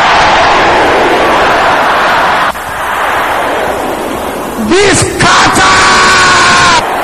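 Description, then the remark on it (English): A large crowd shouts a prayer loudly in unison, a dense roar of many voices filling the space for several seconds, with a few higher yells rising above the mass near the end. “Can I hear you shouting it again loud and clear?”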